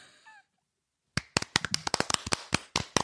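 A brief burst of applause given for Pliny the Elder and Pliny the Younger: quick, sharp hand claps in an irregular rapid patter, fairly loud, following a short faint tonal sound and a moment of silence.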